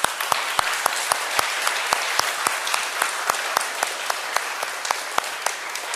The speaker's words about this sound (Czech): váš bratr a člen vašeho sboru, uvítejte ho ještě jednou, prosím, potleskem.